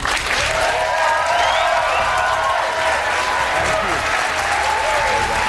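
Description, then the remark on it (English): Loud, sustained applause from a large studio audience of Democrats and independents welcoming Secretary Julian Castro fills the whole stretch, dense and steady, with some cheering and whistles rising above the clapping. “So, without further ado, everyone, can you please give a very warm welcome to Secretary Julian Castro.”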